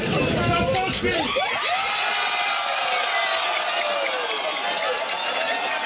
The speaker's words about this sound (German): Und trotzdem, man hat es eben im Hintergrund schon gehört, die Leute haben gejubelt. Ja, da war irgendwie Jubel.